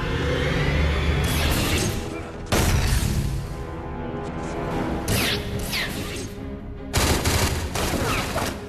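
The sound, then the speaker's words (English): Loud, sustained gunfire in dense bursts, with sharp surges of rapid shots around every two seconds over a constant crackling roar, including a missed point-blank shot. No one speaks. “Oh, I hate it when somebody has a point-blank shot and they miss.”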